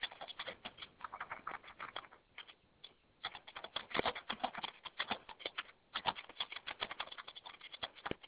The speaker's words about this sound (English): And whoever is doing a great job scribing, can you mute while you're typing, because we can all hear you.